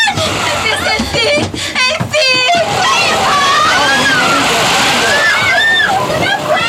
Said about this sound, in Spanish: Calimán lucha por no ser arrastrado por el viento y las olas que barren cubierta